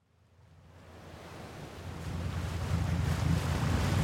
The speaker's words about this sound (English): Fast forward to June 2015, and I found myself on a boat sailing and scuba diving the Galapagos Islands. As our ship cut across the turquoise sea, I breathed in the warm, tropical air.